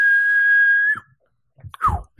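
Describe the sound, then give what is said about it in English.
A person whistles a steady, sustained high note for about a second, imitating a kettle, then after a brief pause adds a short whistle that slides downward, with some faint rustling noise. “Get one that whistles and then turns off.”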